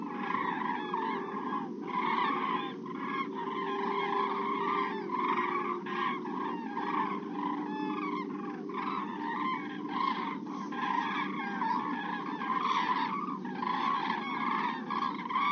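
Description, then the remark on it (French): A dense chorus of honking goose calls from a migrating flock in autumn, continuous for the whole stretch, with higher-pitched squeaky calls of young birds mixed among the deeper adult honks; no talking. “Parfois, on peut entendre en automne les cris aigus des jeunes parmi les cris des adultes dans les vols migratoires.”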